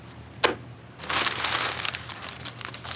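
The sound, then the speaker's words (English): Paper crinkles and rustles as a morning edition newspaper is handled: one sharp crackle, a brief pause, then a longer stretch of uneven, noisy crumpling and flapping, moderately loud, with no voices. “Hey, son, here's a nickel. Give me the morning edition.”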